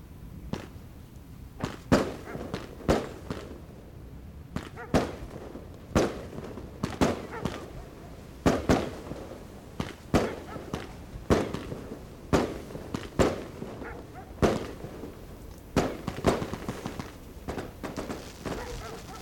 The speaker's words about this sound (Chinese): 屋子外面的鞭炮声啊响起来了。